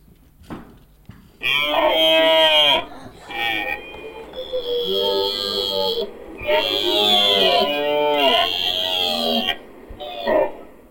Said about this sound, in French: Une vache.